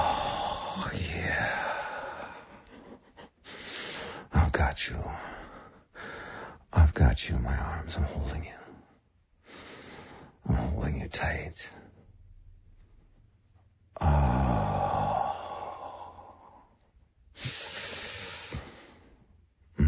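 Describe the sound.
Heavy breathing: a series of loud, breathy exhales and inhales in uneven bursts with short pauses between them, some carrying a faint voiced sigh.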